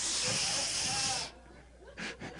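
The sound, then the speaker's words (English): A voice mimics an aerosol spray being used in a bathroom: a loud, steady hiss lasting over a second, cut off abruptly, followed by a couple of short breathy bursts. “Spray the bathroom.”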